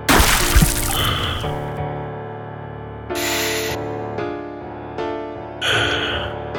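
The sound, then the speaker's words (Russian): Water from a carafe is splashed onto a face in a few short bursts: a bigger splash at the start, then three quicker splashes spaced a couple of seconds apart, over a steady humming tonal background. “Проспав пару часов на жесткой кровати, помнящий самого Эдуарда I Длинноногого, он кое-как встал, плеснул себе в лицо воды из графина и сделал пару медленных вдохов.”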